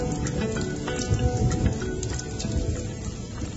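Steady, heavy rain pours down during a storm, a dense hiss of drops with sharper splashes and patters spattering through it, continuous from start to finish with no voices.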